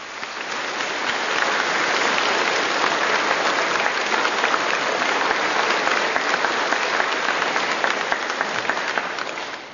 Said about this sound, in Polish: Powitajmy się oklaskami.